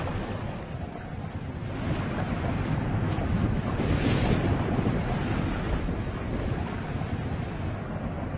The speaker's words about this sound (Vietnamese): Nước Tro đủ dạng chảy xiết, tiếng ầm ầm tạo cảm giác rần rần.